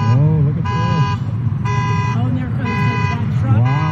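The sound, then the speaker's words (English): Several car horns and alarms blare at once, steady harmonic tones cycling on and off in repeating bursts, loud, with a voice talking underneath. The cars are floating in a parking lot in the Santa Cruz area, flooded by waves from a volcanic eruption. “There's cars floating in the parking lot. Horns going off.”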